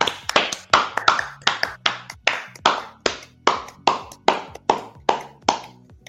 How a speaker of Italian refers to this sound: Facciamogli un applauso, un applauso.